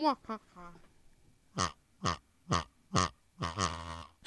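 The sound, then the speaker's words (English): A pig grunts and oinks in a steady run of five or six loud snorts about half a second apart, preceded by a few brief, quieter vocal sounds. “Yeah, and here is Pig's”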